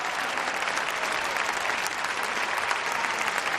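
Sustained applause from Pedro Sánchez's supporters for his speech, at an event also featuring former president José Luis Rodríguez Zapatero, a dense steady clatter of many hands clapping at an even, loud level throughout, with no voices standing out.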